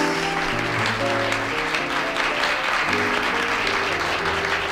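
A crowd applauds steadily and loudly for the whole stretch, a dense wash of clapping with sustained, shifting musical notes playing beneath it.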